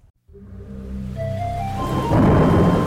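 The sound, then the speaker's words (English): A low, rolling thunder rumble builds over a few seconds and swells into a steady, loud rush of rain. No voices are heard. “This week we'll be learning some of the secrets of rain.”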